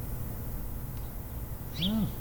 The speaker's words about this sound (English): So on a whim, I just opened the window and shoved a microphone out there, and we had a beautiful sound. There it is. Bring them on. Hey, birds.